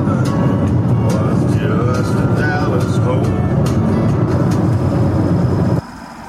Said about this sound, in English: Sound of passing traffic. It's after 10 p.m. on whatever night it happens to be. And we're back, actually, in Mexican Hat.